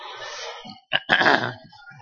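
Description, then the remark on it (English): A church audience, asked by the speaker, bursts into a brief, scattered round of coughing all at once, a dense, noisy cluster lasting about half a second after a short pause. “Well, if I cough, can everybody just cough and sort of cover it up?”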